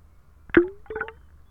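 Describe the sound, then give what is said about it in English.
Two pebbles are dropped one after another into trickling water, recorded with an underwater microphone placed on stones beneath the water; each a sharp hollow plonk with a brief ringing, bubbly tone, over a faint low background of running water. “And then I drop pebbles in. I love how they plonk.”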